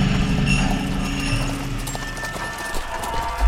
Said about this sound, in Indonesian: Suara itu mulai terdengar semakin dekat. Semakin mendekat. Sampai suara langkah kaki kudanya pun ikut terdengar.